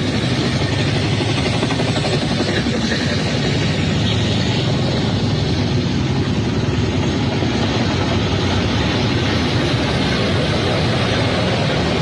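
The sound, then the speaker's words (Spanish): Helicopters drone overhead at 1:58 a.m. during an attack on the Fuerte Piura military base in Venezuela, a loud, continuous rumble of engines and rotors, holding steady for the whole stretch with no voices or other sounds breaking through. “Se escuchan helicópteros, son las 1:58 de la mañana.”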